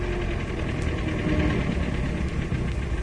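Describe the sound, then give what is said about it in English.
A car engine idles steadily after the car pulls up at a garage, a constant low rumble with a faint mechanical vibration running through the whole stretch, no voices present. “Do you want me to drive in or pull up here?”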